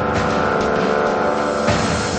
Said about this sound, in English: He starts the car and Ray pulls out of his parking space.